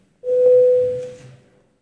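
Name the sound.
parliament bell ringing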